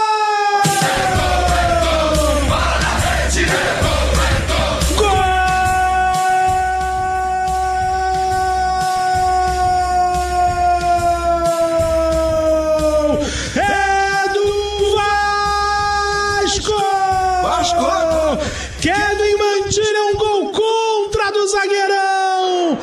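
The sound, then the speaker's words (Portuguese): A commentator's drawn-out goal shout for an own goal by Varela into the Independiente Medellín net after a cross from Cuiabano, one sustained wavering bellow held for many seconds, rising and falling in pitch over a loud, roaring stadium crowd. “Cuiabano descolou o cruzamento, desvio contra. Solta o grito.”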